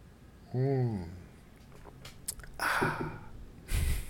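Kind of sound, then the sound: human body sound, sipping water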